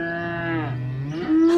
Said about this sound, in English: The cows live in that field.